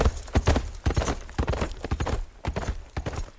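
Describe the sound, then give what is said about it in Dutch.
Horse hooves clip-clop in a steady, uneven rhythm, fairly loud, with sharp repeated strikes over a few seconds and no voices, as a rider arrives around midday on an unsaddled horse from Tafakung. “En rond de middag kwam een christen aangereden op een ongezadeld paard uit Tafakung.”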